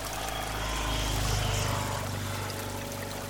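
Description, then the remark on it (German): A jet ski's engine drones steadily across a lake, its low motor hum swelling slightly midway, with faint splashing mixed in and no voices. “Manche Leute fahren auch Jetski.”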